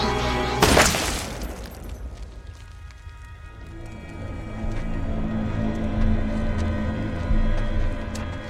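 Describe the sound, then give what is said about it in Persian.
A single sharp, loud gunshot at a residence bursts out near the start, mixed with the crash of breaking glass, then fades into a steady low rumble of background noise with no voices. “45-10 تیراندازی شده.”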